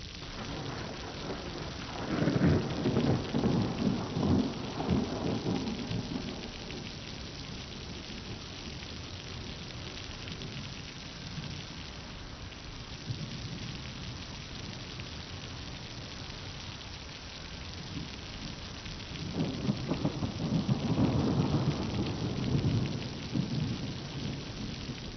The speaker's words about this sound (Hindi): किस लिए भीगने खड़े हुए? देखा नहीं था कि बारिश हो रही है?